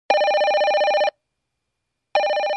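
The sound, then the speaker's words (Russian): A telephone rings loudly in two long trilling bursts separated by a pause of about a second, the second ring continuing to the end; an insistent repeated call coming in on the drive back to town by car after a duck hunt. “На обратном пути в город вновь настойчиво несколько раз звонит Мария.”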